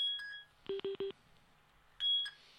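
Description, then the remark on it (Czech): Electronic telephone beeps as a caller's phone call connects to a studio: a high two-tone chirp, then three quick evenly spaced lower beeps, followed by another bright tone. Clear, with no talking. “A máme tady telefon, takže přijímám.”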